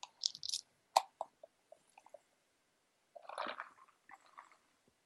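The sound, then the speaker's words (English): Quiet sipping of a drink: a few wet mouth clicks and smacks, then a soft gulping swallow in the middle, followed by faint lip sounds, with no talking. “Let me have a sip.”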